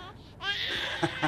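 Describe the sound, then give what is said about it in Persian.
A baby boy cries in a short, high, wavering wail that rises and holds, ending in two quick sobbing catches. No one speaks over it. “صدای بچه‌مه، صدای پسرم.”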